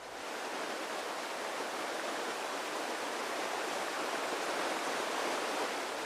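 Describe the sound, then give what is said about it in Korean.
A continuous, fairly loud wash of ocean waves on a sandy Florida beach, the surf blending into a steady hiss with no distinct breaks, heard alone without any voices. “철썩이는 파도를 따라 아름다운 모래 백사장과 구불구불 여유로운 해변이 끝도 없이 펼쳐진다.”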